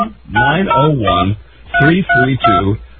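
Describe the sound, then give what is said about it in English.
A voice mimics touch-tone dialing beeps: six tonal notes in two quick groups of three with a short pause between, muffled and narrow as if heard over a telephone line. “Yeah, well, now I bet if I call now, it's busy.”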